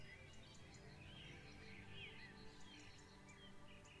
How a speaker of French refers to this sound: Il règne un silence envoûtant, ponctué çà et là de jolis chants d'oiseaux.